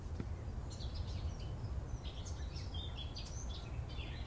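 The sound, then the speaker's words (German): A Eurasian blackcap sings beside a fallen apple tree: scattered warbling phrases over a steady low rumble of outdoor background noise, with no voices. “Im Hintergrund singt eine Mönchsgrasmücke.”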